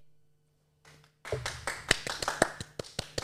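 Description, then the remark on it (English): A short burst of hand clapping: a quick, slightly uneven run of sharp claps that starts abruptly after a brief quiet moment and continues steadily until the end, with no talking. “Clap for me.”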